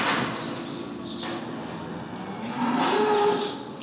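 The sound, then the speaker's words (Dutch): Dairy cows mooing inside a barn, one low drawn-out call and then a louder, rising moo near the end, against a steady indoor hum with faint house sparrow chirps. “En dan komen we bij het vee. De koeien kijken ons aan.”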